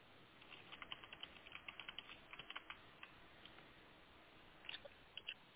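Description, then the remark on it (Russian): Rapid, uneven typing on a computer keyboard as a search term is entered on the search page of a state pharmacopoeia website, with clusters of sharp clicks and a few short pauses, fairly quiet with no voices. “Например, вот я вбиваю в поисковой странице ОФС растворение”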